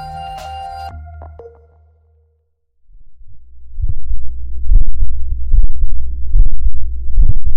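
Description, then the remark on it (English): A brief tonal chime fades into silence, then a human heartbeat recorded by a fabric microphone in the vest the person was wearing starts: deep, muffled thumps repeating steadily about once a second over a low, continuous rumble, fairly loud, with no talking. “This is a person's heartbeat. And it was recorded by their vest.”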